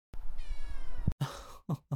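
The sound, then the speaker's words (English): A cat meows: a long, drawn-out, slightly raspy cry followed by two or three shorter chirping meows in quick succession, with no talking. “Your poor health has triggered a more cat-like response in Your Grace's behavior today. Is that right, kitty?”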